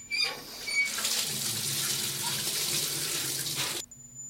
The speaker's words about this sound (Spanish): Abre la ducha